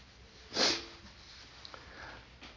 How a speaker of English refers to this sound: I'm sorry, the sniffing has already started.